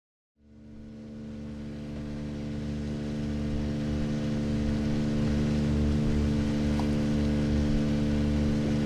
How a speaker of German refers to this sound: Es ist 1961 und vor der mallorquinischen Küste, da tuckert ein kleines Boot herum. Am Steuer des Bootes, da steht ein großer, schlanker Mann.